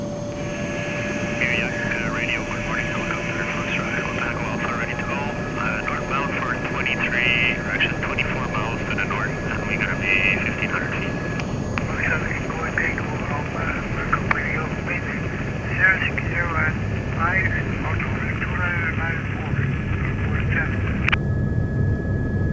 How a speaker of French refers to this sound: Et dans cet environnement, l'hélicoptère est l'un des meilleurs amis du chercheur.